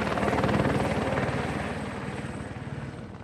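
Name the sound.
helicopter hovering overhead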